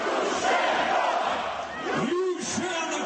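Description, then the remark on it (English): A large crowd of Orange Revolution supporters chanting and roaring together in Independence Square, Kiev, Ukraine, in December 2004, a dense steady wash of many voices with rising and falling shouted syllables toward the end, loud throughout. “December 2004, a sea of Orange supporters in Kiev's Independence Square.”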